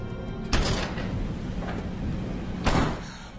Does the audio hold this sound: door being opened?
yes